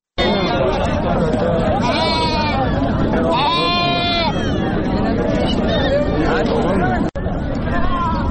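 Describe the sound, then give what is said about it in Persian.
Several sheep bleat in drawn-out, quavering calls over a dense, steady, loud crowd babble, with overlapping voices and bustle throughout, at the Ganj Bazaar livestock market in Andkhoy, Faryab province, Afghanistan, which hosts thousands of animals including sheep and cattle. “گنج بازار یا بازار فروش مواشی در اندخوی فاریاب میزبان هزاران حیوان از جمله گوسفند و گاو است.”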